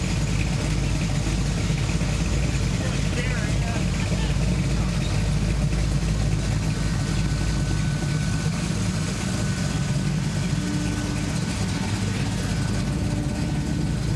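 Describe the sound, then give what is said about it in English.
A car engine idles with a deep, steady exhaust rumble that runs unbroken and fairly loud for the whole stretch, with faint voices now and then in the background. “Hey, can you turn off the car? I can hear you better.”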